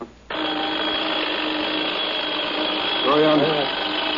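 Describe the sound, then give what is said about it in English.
An alarm clock being tried out in a shop rings with a harsh, steady electric buzz that starts abruptly and drones loudly without a break, with a brief voice-like sound rising over it near the end. “I can't seem to find the kind of alarm that I really like.”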